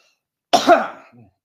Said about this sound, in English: Excuse me, sorry about that. It's a good job I edit these. Coughing fit, excuse me.